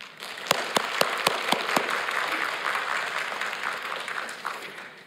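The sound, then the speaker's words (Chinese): A church audience breaks into applause for members spreading the gospel in their Happiness Group, opening with a few sharp, evenly spaced claps before swelling into steady, dense clapping that holds for several seconds without any talking. “我要邀请弟兄姐妹哈，为我们在幸福小组当中日新来传福音的弟兄姐妹来鼓掌，可以吗？”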